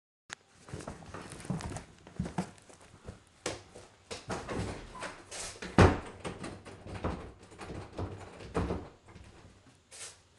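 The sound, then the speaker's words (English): A bedroom door is handled, with a run of wooden knocks, rattles and clicks and one heavier thud midway, as it is shut and locked. No one speaks. “I just locked the door to their bedroom.”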